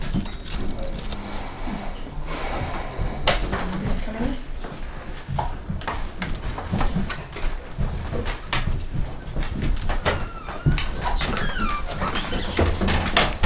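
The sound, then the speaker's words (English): A dog barks in short, repeated bursts among a cluttered, noisy indoor scene, with knocks and rustling around it and people talking faintly in the background. “He's our great protector. It's okay, baby. What a good boy.”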